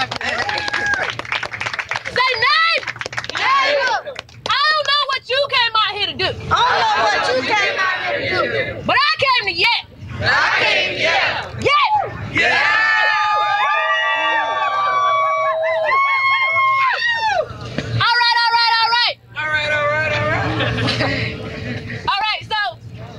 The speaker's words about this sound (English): Okay, that was the chants and little mini speeches from the Black Lives Matter March and rally conducted by the Bay Area Activist Coalition.